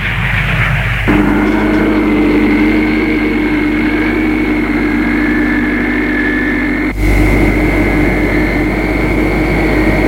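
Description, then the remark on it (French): A steady, loud airplane engine drone fills the cabin, with a constant low rumble and sustained tonal hum that shifts slightly in pitch partway through, continuing without any talking. “Cette Karine fait un voyage agréable en avion.”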